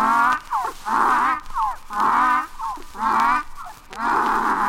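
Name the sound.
donkey braying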